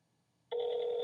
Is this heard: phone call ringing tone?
yes